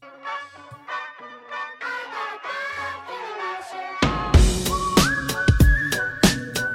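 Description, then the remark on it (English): A whistled melody drifts over soft backing for a few seconds, then a full band with drums kicks in while a long, high whistled note holds above the music. “Ooh, the whistling's already.”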